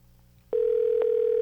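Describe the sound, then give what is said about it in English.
After a moment of low background hum, a steady electronic telephone ringing tone of an outgoing call cuts in abruptly and holds at an even, fairly loud level to the end, with a soft click partway through. “And we're just ringing again.”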